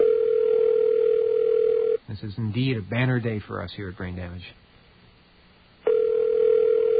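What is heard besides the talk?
telephone ringing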